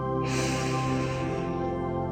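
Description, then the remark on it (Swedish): A slow, deep inhale through the nose during a guided breathing exercise, a steady airy rush lasting about two seconds, over a soft sustained musical drone. “Andas in genom näsan och ut genom munnen.”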